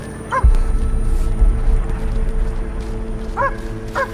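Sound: dog barking aggressively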